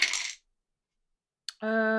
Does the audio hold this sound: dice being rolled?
yes